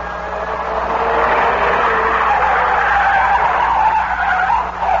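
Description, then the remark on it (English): Tires screech in a long, sustained skid as a car swerves and circles wildly, the squeal wavering in pitch over a steady engine rumble, loud, with no voices. “Reed seemed to sag and the car began to circle wildly.”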